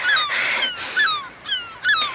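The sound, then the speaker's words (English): A seagull squawks several times in quick succession, harsh, piercing calls, fairly loud, with no one talking. “Running so fast I didn't see you there, Seagull.”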